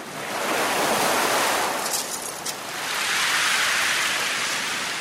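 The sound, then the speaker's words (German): Metre-high ocean waves crash and wash onto the long, snow-white beach of Watamu on the coast of Kenya in a steady, loud roar of surf, swelling and easing as one wave recedes and another breaks, with a faint hiss of spray and wind. “Meterhohe Wellen brandten an den langen, schneeweißen Strand von Watamu.”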